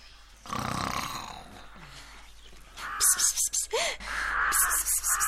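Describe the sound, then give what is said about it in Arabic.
A hedgehog snores in deep sleep: a long rasping breath, then a quick run of rhythmic snuffling snorts with a brief whistling squeak in between. No voices. “إنه يشخر، لابد أنه يحلم بمزرعة كرنب لذيذة”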